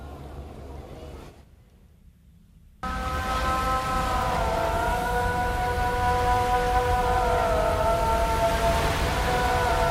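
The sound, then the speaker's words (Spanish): After a brief lull, a loud, sustained amplified Muslim call to prayer rings out over a loudspeaker at a beach, a wavering melodic voice, steady and carrying, with a constant background hum beneath it. “Vamos, que tú estás en la playa allí, los ahí estarán, estáis en la playa y lo mismo escucháis el paso de helicópteros militares que la llamada a la oración.”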